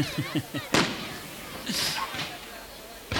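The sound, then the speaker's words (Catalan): Fireworks from the farewell fireworks display of the 2010 Sitges Carnival, shortly before 8 in the evening, with palm-shaped bursts: one sharp, loud bang, then a hissing, crackling burst a second later. Brief voices and a whistling whine come before the blast, with a steady low rumble underneath. “I estem en el moment de la tradicional transmissió per ràdio d'un castell de focs.”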